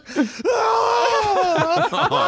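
A short vocal burst, then a long, loud, high-pitched scream held for about two seconds, its pitch wavering slightly, alone with no talk over it.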